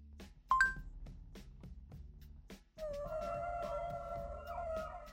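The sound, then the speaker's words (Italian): A short electronic chime, then a humpback whale song played through a Google voice search: long, sustained tonal moans that hold steady and waver slightly, fairly loud, with no talking. “Ok Google verso megattera.”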